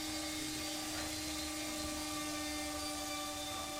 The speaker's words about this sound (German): Der Neurochirurg Dr. Jan Merkens vom Klinikum Großhadern bohrt ein kleines Loch in die Schädeldecke einer Parkinson-Patientin.